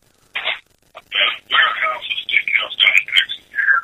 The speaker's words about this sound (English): You guys got a phone on or a radio on or something? Yeah, you have to listen to each. Yeah, we had the iPod on. I'm sorry, we turned it down.